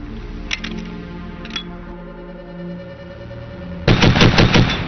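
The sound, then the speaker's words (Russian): A belt-fed machine gun fires a couple of short bursts, then opens up in a loud, sustained rapid stream of shots near the end, with steady low rumbling background noise throughout. “В апреле 1938 года пулемет с ленточным питанием был успешно испытан.”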